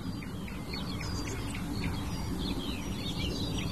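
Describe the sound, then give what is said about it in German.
A warbler gives repeated short, hard, pebble-like calls, quick and sharp, scattered among other chirps over a steady low background rumble, with no one talking. “Jetzt hört ihr sie, das kieselsteinartige Rufen der Menschgrasmücke.”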